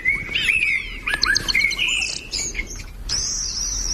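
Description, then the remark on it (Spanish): Melodic song of thrushes and blackbirds fills the air, a string of clear, varied whistled phrases and fluting notes, fairly loud, with a steady background hum of outdoor ambience. “Y luego el canto armónico melódico de zurzales y mirlos, ya casi en la escala alta.”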